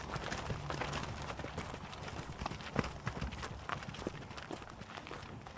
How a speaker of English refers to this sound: Come on, girls, come on, come on. Cows are just walking by us down to the field after milking.